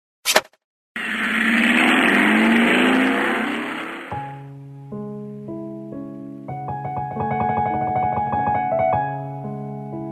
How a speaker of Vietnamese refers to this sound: Bố yên lặng đóng cửa xe, mở máy.